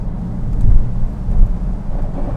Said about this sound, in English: It's very, very rainy. It is. There's a lot of water on this road. Oh my goodness me. You can probably hear the rain on the winder.